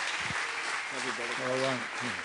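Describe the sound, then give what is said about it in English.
A church audience in Madison claps steadily in a dense, continuous wash of applause, giving a hand clap unto the Lord, with a voice briefly calling out over the crowd noise. “Let's give a hand clap unto the Lord right now.”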